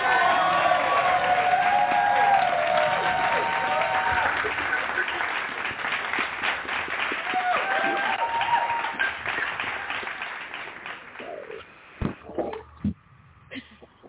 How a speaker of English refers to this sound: And we're going to welcome her with a hand clap.